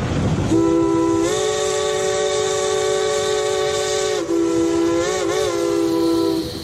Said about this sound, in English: There is something about a train going by that has a strong appeal. Just about everybody likes to watch trains roar by and travel with them in imagination.